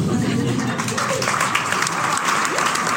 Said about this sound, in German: Ja, Applaus, Applaus.